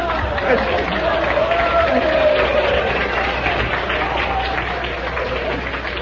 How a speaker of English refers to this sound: Boy, is this ever an aggressive crowd.